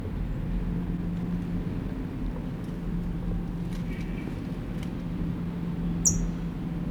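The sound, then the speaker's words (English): A steady low rumble fills the whole stretch, and near the end a single short, sharp, high-pitched bird alarm call cuts through it. “Still here, alarm call.”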